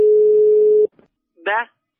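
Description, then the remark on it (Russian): A steady telephone dial tone hums for almost a second, then cuts off, followed by a faint click and a short vocal sound a moment later. “Ну не трогай ты телефон, ну что у тебя, болезнь такая, телефон, вот набирайте, набирайте.”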